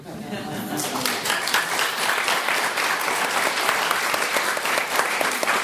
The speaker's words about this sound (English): And will you also applaud the children for joining me, please? Thank you. Thank you.